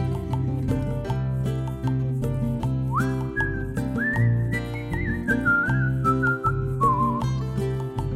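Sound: whistling a tune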